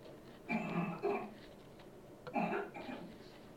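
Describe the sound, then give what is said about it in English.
Three quick sneezes: a pair in fast succession, then a third after a short pause, each a sharp voiced burst over quiet. “Bless you. Are you okay over there?”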